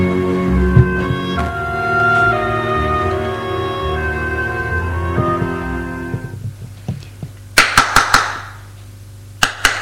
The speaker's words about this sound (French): Au bout d'un moment, on a frappé à la porte. Et on rentre.